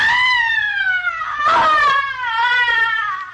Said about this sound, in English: A young man has just entered the darkened interior, and as he moves across the room, he hears a sudden, blood-curdling shriek of frustration and anguish coming from another part of the house.